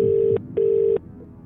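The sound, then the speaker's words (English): A telephone ringback tone on an outgoing call to a competition winner's number: two steady, mid-pitched electronic tones, each lasting about a third of a second with a short gap between, followed by quiet. “Oh, it's ringing.”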